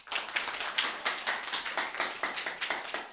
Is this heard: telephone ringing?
no